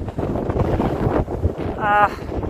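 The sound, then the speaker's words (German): Strong, stormy wind buffets the microphone in heavy, rumbling gusts on a 15 to 20 degree day on flat terrain, with a brief tonal whistle near the end and no clear speech. “Aber ich glaube, auch über den Ton kommt ganz gut rüber, wie windig es ist.”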